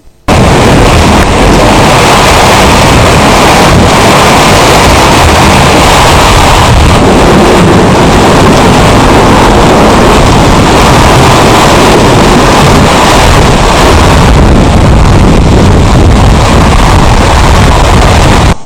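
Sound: rumbling thunder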